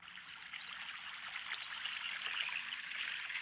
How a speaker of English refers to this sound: And so now we've been transported to a garden.